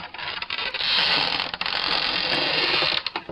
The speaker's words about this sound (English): As always, though, before we can induct someone into the Crunch Time Toolshed, we call upon our proprietor to unlock the front door and open the Crunch Time Toolshed.